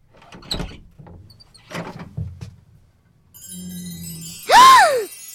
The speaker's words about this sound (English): Oh, my. Oh! And the door opened on a perfect little room.